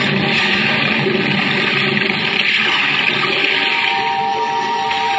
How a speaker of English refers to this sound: Now, hoist you up and overboard and dive with your equipment well in hand into the sea and under it.